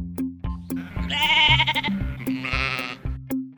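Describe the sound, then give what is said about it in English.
A sheep bleats twice, long, quavering and loud, over a steady low thumping beat with no one talking. “Remember, a sheep is the animal.”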